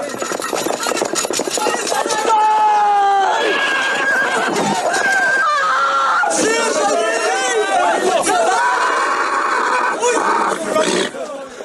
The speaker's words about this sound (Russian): Кони понесли!